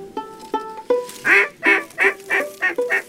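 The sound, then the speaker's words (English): Ducks calling as they fly overhead in the morning: a quick run of about six harsh, nasal quacks, each following closely on the last, with fainter tonal notes just before, clear with no voices. “Look at all those ducks.”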